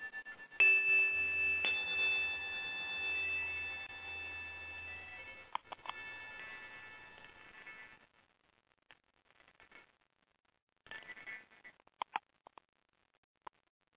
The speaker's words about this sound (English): I'm going to play the chimes and hopefully we will get some calls.